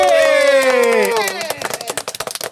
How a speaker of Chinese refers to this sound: 哇！感谢感谢， 掌声鼓励鼓励。